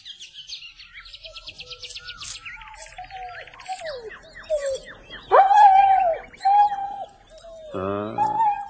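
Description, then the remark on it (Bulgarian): A dog named Sharo, foaming at the mouth, gives a few sharp barks and drawn-out, wavering howls and whines, loud against a busy background of chirping, trilling birds; no one speaks. “Хей, как ще ме вкара в грех той куче, ръка да вдигне срещу него.”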